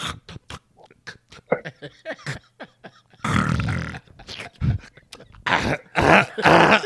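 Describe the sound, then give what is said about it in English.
A voice imitates a person's snoring: a run of quick clicking throat sounds, then several loud, rough, grunting snorts and a throat-clearing rasp, fairly loud, with short pauses between bursts. “That nigga's like, that nigga got the nerve to clear his throat.”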